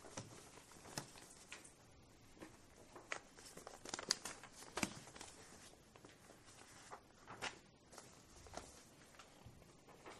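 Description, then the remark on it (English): Papers are shuffled and crinkled in a steady run of sharp crackles and soft tearing-like scrapes, with occasional louder crunches and no talking. “You know, for all the more we did, we sure have a lot of paper today.”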